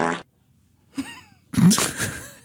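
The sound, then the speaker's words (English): A fart sound effect plays loud: a short burst, a pause, a wavering squeaky toot, then a longer, louder blast that trails off. “or saying, pull my finger and farting with perfect timing.”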